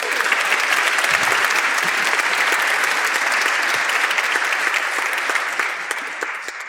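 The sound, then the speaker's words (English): A concert audience claps loudly and steadily for several seconds, applauding themselves before a choral performance, a dense wash of many hands with no voices over it, easing off slightly toward the end. “Round of applause for yourselves.”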